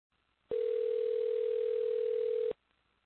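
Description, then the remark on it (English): A phone line rings on an outgoing call to a sales lead: one steady, electronic ringback tone lasting about two seconds, clear and fairly loud, with near silence before and after and no voices. “I was calling you back”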